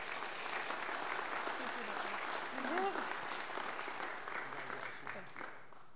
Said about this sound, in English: One thing I forgot to say is we're going to ask family members to stand when their graduate says, so family, stand up. Round of applause for the family as well.